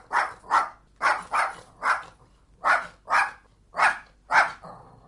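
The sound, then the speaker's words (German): A dog barks in a rhythmic series of about nine sharp barks, mostly in pairs with brief pauses between, clear with no one talking. “Aber dieser Hund, den man eben hörte, beherrscht er das Morse-Alphabet?”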